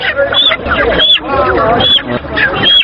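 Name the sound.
chickens clucking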